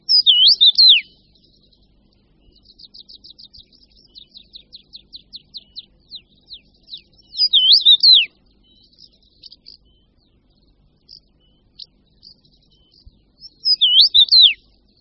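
A common rosefinch sings a short, loud whistled phrase three times, spaced several seconds apart, with a quick run of faint, rhythmic high chirps between the first two phrases. No voices.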